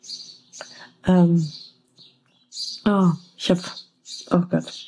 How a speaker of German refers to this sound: Hinter mir brüllen sich die Vögel gerade gegenseitig an. Ich bin neugierig, ob ihr das auch hört. Abgefahren.